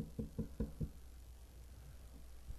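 Four quick, evenly spaced knocks on a hard, wooden-sounding surface, dull in tone, followed by quiet room sound and one softer knock near the end.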